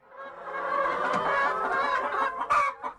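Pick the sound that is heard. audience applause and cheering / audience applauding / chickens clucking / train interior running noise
chickens clucking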